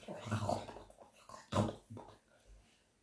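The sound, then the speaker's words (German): A dog crunches something hard between its teeth, a few loud, irregular bursts of grinding and snorting with a low, grunting, almost pig-like quality, and no talking. “Das klingt jetzt ein bisschen wie wenn ein Schwein frisst.”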